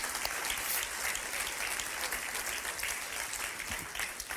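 A crowd claps steadily for community members with family in Ukraine, a dense wash of many hands sustained at an even level for several seconds, with a faint murmur of voices mixed in.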